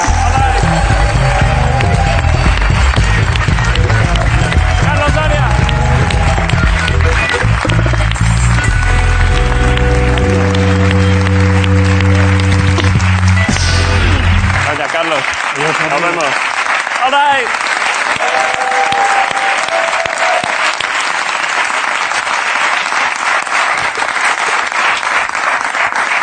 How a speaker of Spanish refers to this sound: Carlos Soria, es un gusto, un aplauso para Carlos Soria en la Resistencia.